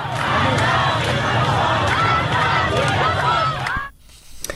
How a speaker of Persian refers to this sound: رمزی که شاید در فریادهای این زنان و مردان معترض تفسیر شود.